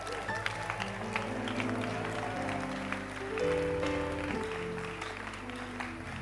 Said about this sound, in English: Clap for him.